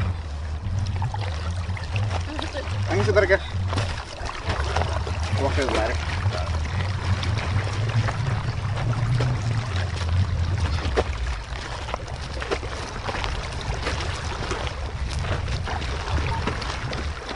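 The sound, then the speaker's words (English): Water splashes and churns over a steady low engine rumble, continuous and fairly loud throughout, with indistinct voices faintly underneath, during the rescue of a Guatemalan mother who jumped into the Salinity Canal along the U.S.-Mexico border. “In these next few seconds, you'll hear a rescue from the Salinity Canal along the U.S.-Mexico border.”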